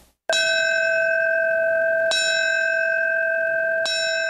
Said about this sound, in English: The ringing of the New York City Fire Department bell, the traditional signal for a fallen firefighter.